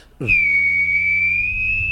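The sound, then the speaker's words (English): A voice imitates a jet taking off: a sudden, loud, steady high-pitched whistle over a low buzzing rumble, holding for nearly two seconds without a break. “Jet taking off.”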